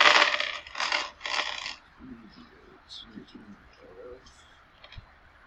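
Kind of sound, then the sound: dice rolling and clattering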